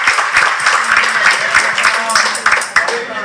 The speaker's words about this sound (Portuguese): Ah, Sandro Laina! Palmas para Sandro! Campeão paralímpico brasileiro.